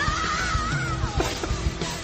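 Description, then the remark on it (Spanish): A singer's voice strains on a high sustained note that cracks into a shrill shriek and slides downward, loud, over thumping backing music. “Pero es que eso es alarido. Es que es alarido, se ha ido arriba.”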